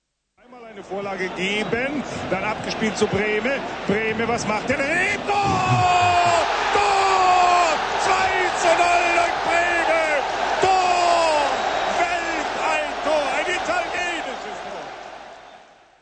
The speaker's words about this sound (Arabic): لا شك في أنه قد خطر ببالكم بما يتعلق الأمر هنا، إنه لعبة كرة القدم، وتعرفون حيث يجري اللعب أن الجمهور قد صاح لتسجيل الهدف تور، وأن الهرج والمرج والابتهاج كان رد فعل على تسجيل الإصابة.